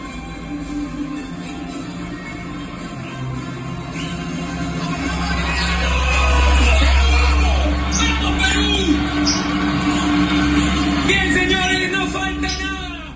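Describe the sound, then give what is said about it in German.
A crowd of fans in Lima, Peru, cheers and shouts while watching the teams walk out before a football match on television, voices overlapping in a noisy, excited hubbub that swells louder toward the middle before easing slightly, with a deep rumble underneath. “der in Peru vor dem Fernseher sitzt, in Lima, hat mir ein paar Szenen geschickt. Also noch nicht vom Spiel, aber vom Einmarsch sozusagen.”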